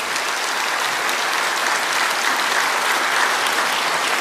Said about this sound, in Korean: 정말 하나님 감사하지요. 감사하고 다 한번 박수 한번 칩시다. 이왕 시작하니까.